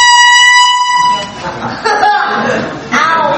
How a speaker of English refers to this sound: When that alarm, when that horn sounds, it means they are ready to pull up anchor. The ship is ready to leave.